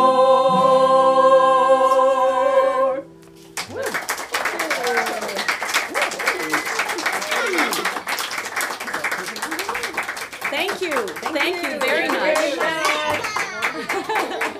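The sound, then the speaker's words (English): A few seconds of sustained, harmonic singing by a group cut off, then steady applause takes over, dense clapping with rising and falling whoops and cheers from the crowd continuing loudly to the end. “I like our cheering section.”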